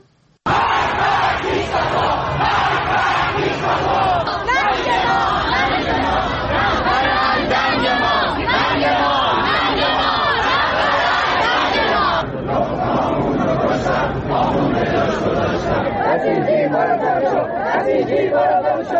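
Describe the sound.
A large protest crowd in Iran chants slogans in unison against officials of the Islamic Republic, loud and continuous, many voices rising and falling together in a rhythmic, shouted cadence for the whole stretch, with a brief dip partway through.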